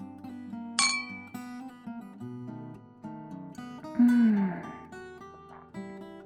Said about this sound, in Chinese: 好，我们干杯，算是为我们第一次愉快的约会庆祝一下。